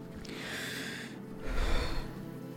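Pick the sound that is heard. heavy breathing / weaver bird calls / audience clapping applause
heavy breathing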